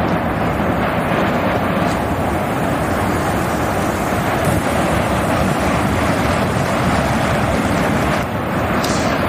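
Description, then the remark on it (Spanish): A volcanic eruption on La Palma, where the ground opened at Cabeza de Vaca, gives off a loud, unbroken roaring rumble, dense and deep, holding steady for the whole stretch with only faint crackling hiss above it and no voices. “Bueno, pues finalmente la tierra se abría en la zona de Cabeza de Vaca y comenzaba un sonido que seguro que aún recuerdan los 84.000 palmeros en la isla.”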